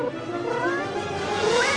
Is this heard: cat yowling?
yes